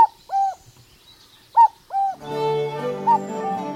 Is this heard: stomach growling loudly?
no